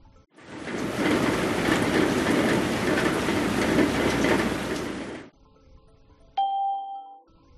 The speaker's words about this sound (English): It's raining.